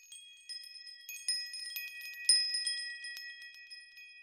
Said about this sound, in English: In the distance church bells chime, soon it will be Christmas time.